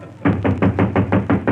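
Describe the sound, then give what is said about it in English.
A quick, steady series of about eight knocks on a door, made by a sound effects man, evenly spaced and fairly loud, with dull, thumping hits and no voices. “Who's that knocking on the door”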